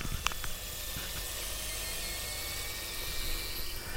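air fryer food sizzling

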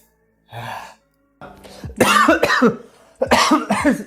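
cough

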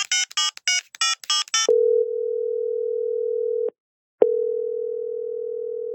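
telephone ringing tone

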